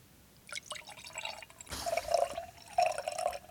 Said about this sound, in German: Dann gieße ich mal ein. Ja, mach mal.